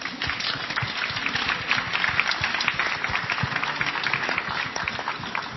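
Sustained applause from a crowd, a dense steady patter of many hands clapping at a fairly even loudness throughout, with no voices standing out.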